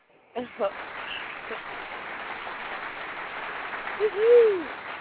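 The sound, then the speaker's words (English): A burst of crowd applause as a sound effect: steady, dense clapping that starts abruptly and holds for several seconds, with a brief cheer-like vocal whoop rising near the end. “Well, let me give you a round of applause.”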